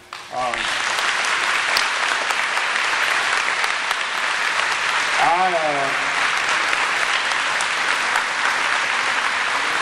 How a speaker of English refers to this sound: Can we give another round of applause to our staff?